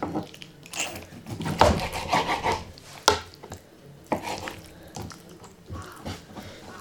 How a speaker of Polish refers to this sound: Ja z reguły pierś kroję najpierw w paski, a później te paski kroję w kostkę. Różna ta kostka wychodzi, tak jak mówiłam, ale zależy dużo od ostrości noża, czy to się pokroi bardziej się potnie, czy mniej.